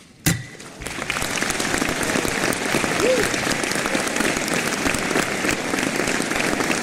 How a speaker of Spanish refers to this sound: Es la ovación por parte de las delegaciones de los Estados miembros de la OMS al adoptar el Tratado Global sobre Pandemias, un acuerdo calificado como histórico